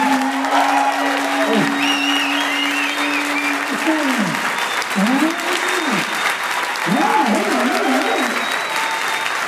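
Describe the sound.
An audience claps and cheers steadily throughout, with whoops and voices rising over the dense applause, including a sustained call and a few warbling yells.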